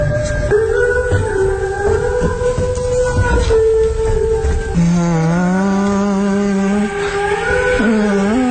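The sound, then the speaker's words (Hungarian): A loud, steady car engine in a film where a man drives a car drones throughout, its whining pitch holding level and then shifting upward in stages as if through gear changes, with a rough rumbling underneath. “Ez a film egy ember vezet egy autót.”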